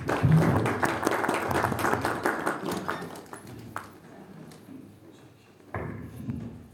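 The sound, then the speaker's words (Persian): An audience at an event in Hamedan breaks into applause to welcome a speaker, the deputy for coordination of economic affairs of Hamedan governorate, many hands clapping densely at first and then thinning out and fading, with a short renewed burst of clapping near the end. No one speaks. “با احترام دعوت میکنم از محضر ارزشمند استاد گرانقدرمون جناب آقای دکتر حسینی، معاونت محترم هماهنگی امور اقتصادی و استانداری همدان، از بیانات ارزشمندشون استفاده خواهیم برد با صدای تشویق‌های با محبت شما.”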